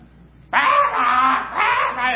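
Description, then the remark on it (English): Harsh, raspy caws from a flock of crows ring out loud, a long grating call followed by another, several birds calling together. “I have a woods behind my house, and I love to have my devotional time in the morning in the back porch, the screened-in porch, and sometimes there'll be a flock of crows there. They can make a racket.”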